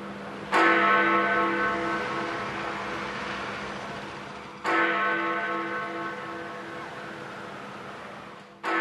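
Big Ben, the London clock tower bell, tolls at noon to signal two minutes of silence. Three deep strikes come about four seconds apart, each with a sharp onset and a long, humming decay ringing out over faint traffic noise.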